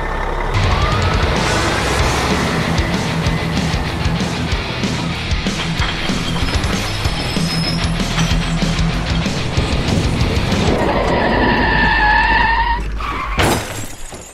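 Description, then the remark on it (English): A loud truck engine roars as it accelerates during a driving test, joined by rattling and clattering, then tires screech into a skid before a sharp crash-like burst near the end. “This truck would really get his freak on.”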